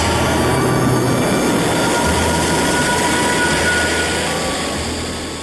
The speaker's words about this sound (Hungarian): Ilyen hangja van, amikor egy kísérleti pályán egy szán több mint 10.000 km per órás sebességgel halad.